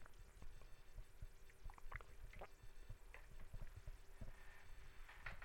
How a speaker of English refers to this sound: Let me get a good drink of water here because I'm going to get into chapter 31.